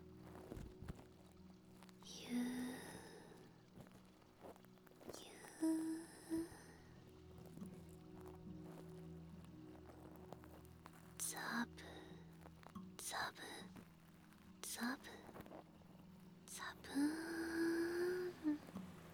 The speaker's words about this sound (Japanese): どこからともなく風が吹いてきます。